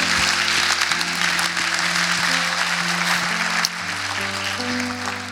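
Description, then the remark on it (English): Steady, loud crowd applause at Makers Church fills the whole clip, a dense wash of many hands clapping, with a low sustained musical tone running underneath and shifting pitch near the end. “And so we can clap that up.”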